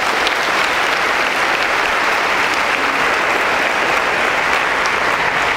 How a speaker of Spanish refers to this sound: Así que date un fuerte aplauso por la noche de hoy.